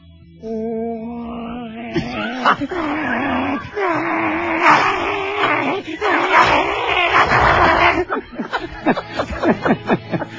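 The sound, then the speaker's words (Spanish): A person growls and snarls like a vicious rabid dog, a long, rough, raspy rumble that rises and falls, then breaks into short panting, snapping bursts at the end, loud. “No, es un perro rabioso.”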